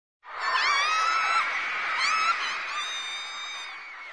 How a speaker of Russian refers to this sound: Похоже, это поклонницы кричат что-то своему кумиру. В японском языке взволнованный женский голос описывается словом «кя-кя».